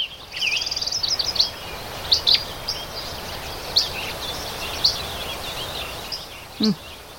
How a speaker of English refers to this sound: So vegetation was leafing earlier, was bringing a new mix of birds to the area. They are hermit thrush, yellow-rumped warblers, chirping sparrows, among others. Here's the sound.